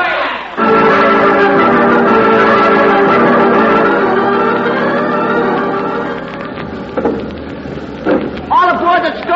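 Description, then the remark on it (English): A fire engine bell rings in a loud, continuous metallic clangor for about six seconds before fading, with a few brief voice-like bursts near the end. “So long, fire engine.”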